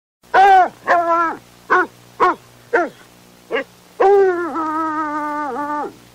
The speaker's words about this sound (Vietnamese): Con chó săn thứ nhất ngửa cổ hú lên một tiếng thất vọng. Con thứ hai cũng kêu.